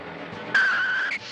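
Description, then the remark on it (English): A taxi cab's brakes screech as its tires skid in one sustained, loud, high-pitched squeal lasting under a second, rising over a low engine rumble, then cutting off abruptly. No one speaks. “Hit the brakes.”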